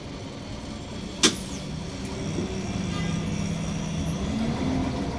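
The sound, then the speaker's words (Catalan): A steady low engine rumble drones throughout, like a bus interior on the move, with one sharp brief click or knock near the start over the continuous hum; a bus carrying schoolchildren from Lleida on a spring excursion to Siurana, in the Priorat. “Vet aquí que un dia de primavera, els nens i nenes de l'escola El Cargol Matiner de Lleida van pujar a l'autobús que els portaria d'excursió a Siurana, al Priorat.”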